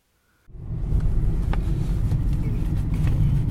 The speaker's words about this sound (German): Mit dem Auto unterwegs am Rand des Südharzes. Ein sonniger Märztag. Auf den Feldern die letzten Schneereste. Hier und dort glitzert Tauwasser.